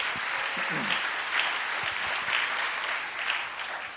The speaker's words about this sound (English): Let's give our bishop a big hand clap.